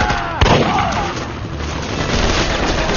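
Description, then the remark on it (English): A sharp shotgun blast cracks out near the start, an M4000 shotgun fired from the hip on the run with number two pellets, then a dense, rumbling wash of noise and scattered impacts carries on steadily, like ongoing gunfire in a chaotic firefight. “he switched to the M4000 on the run and fired from the hip”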